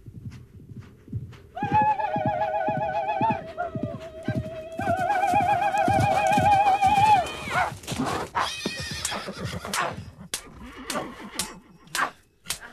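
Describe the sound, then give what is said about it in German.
Two riders on shaggy horses gallop across the steppe straight toward the listener in a steady, thudding rhythm while loud, wavering neighs ring out over the hoofbeats, followed by sharper scattered clatters and snorts toward the end. “Und als ich eines Tages irgendwo in der Steppe saß und mir ein Süppchen kochte, tauchten am Horizont zwei Reiter auf und jagten auf ihren struppigen Pferden geradewegs auf mich zu.”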